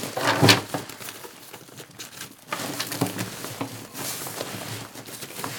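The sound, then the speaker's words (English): Rustling and sliding of webbing tensioner straps being undone on a bag, with a few sharp plastic clicks and scraping, irregular and fairly loud with no talking. “So you just gotta undo the tensioner straps here.”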